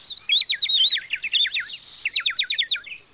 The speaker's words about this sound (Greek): Ένα όμορφο πουλάκι. Έρχεται κοντά μου.